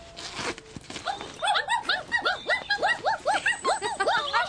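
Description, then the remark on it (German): Three puppies whimper and squeal in quick, overlapping high-pitched bursts from inside a bag lying in the middle of a road, starting after a brief rustle and continuing steadily without pause; no one speaks. “Ja, was seid ihr denn für süße Hundebabys? 1, 2, 3 kleine muntere Kerlchen.”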